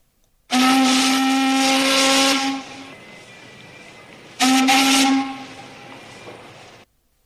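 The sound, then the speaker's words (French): A passing warship's steam whistle blares loudly twice, a long blast of about two seconds then a shorter one, each trailing into a lingering hiss of escaping steam. “Et les caïmans, immergés dans l'eau, avec seulement les yeux et le nez dehors, virent passer le bateau de guerre qui sifflait de toutes ses forces.”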